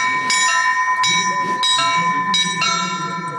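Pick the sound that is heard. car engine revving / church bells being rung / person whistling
church bells being rung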